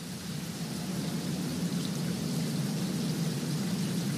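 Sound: rain and storm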